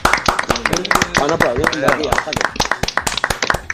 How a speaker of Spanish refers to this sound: Aplaudir vamos por un aplauso, chavales, un aplauso por... ahora, ¿no? Aplausito, vamos.